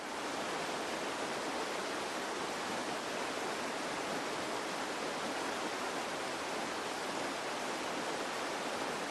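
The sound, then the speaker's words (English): A steady, unbroken roar of rushing deep water, like a torrent pouring through, holding the same hissing loudness throughout with no voices or other sounds. “And it's not even just the sight of it, it's the sheer volume that they would hear.”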